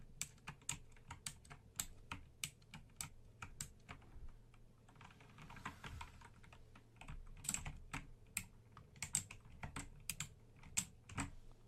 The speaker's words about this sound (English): You gave her your passport, and she quickly checks you in to the sound of this keyboard.